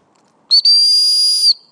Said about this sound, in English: Now, where are those doggies? Let's give them a whistle.